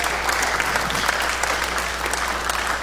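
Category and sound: crowd, audience applauding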